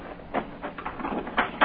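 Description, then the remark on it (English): Heavy cargo doors rattle and scrape open in a few short metallic bursts, fairly loud, with a clunk near the end and no voices, as they are opened to release a load of beavers in the country. “I'll prod them out as soon as you open the doors.”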